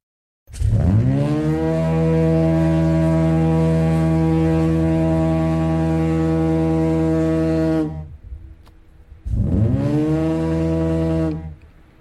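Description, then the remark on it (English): A deep, loud compressed-air lighthouse foghorn near Poldhu, Cornwall, the one Marconi would have heard, blares in one long, steady blast of about seven seconds, rising at the start and fading briefly before a second, shorter blast sounds. No one speaks. “So when Marconi was here, that is the foghorn he would have heard?”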